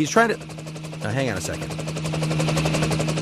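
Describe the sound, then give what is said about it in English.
A helicopter flying over a residential neighborhood in Los Angeles, its rotor thudding in a rapid, steady chop with a low engine drone underneath, fairly loud overhead; brief voice-like tonal fragments surface near the start. “He's trying to change federal law to limit helicopter noise over residential neighborhoods in Southern California.”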